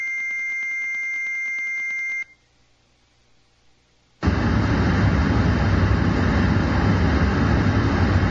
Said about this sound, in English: That is called brown noise. Brown noise. That one sounds to me to be intolerable.